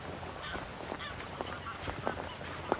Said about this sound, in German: Was man im Hintergrund hört, das sind Gänse. Die scheinen da auf so einer Moorinsel zu wohnen. Weiter draußen. Die fühlen sich ein bisschen von mir gestört.